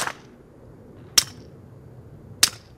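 Shots from a 9mm handgun, one of the most common guns on the market, with a silencer screwed on the end: two sharp, dull pops about a second apart, each with a short hissy tail, following a faded shot at the very start. No one speaks.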